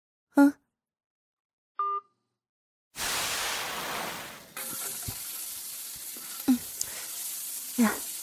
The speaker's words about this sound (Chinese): 好了，不说了，我锅里还炒着菜呢。